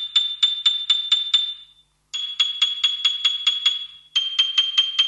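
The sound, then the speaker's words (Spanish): A bright, high piano note from a piano program played on a mobile phone, struck rapidly over and over in three bursts of about six hits each, every strike carrying a sharp mechanical key click added to sound like a real piano, with brief pauses between bursts and no talking. “Se escucha el tac, tac, tac, además de la nota.”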